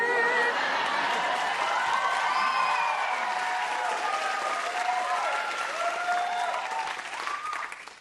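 A crowd claps steadily and loudly for about eight seconds, a dense patter of many hands, with scattered voices calling out over it before it starts to thin at the end.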